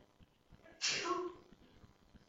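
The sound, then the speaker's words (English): A single sudden sneeze bursts out, loud, a sharp explosive blast that fades within half a second against a quiet background. “Bless you.”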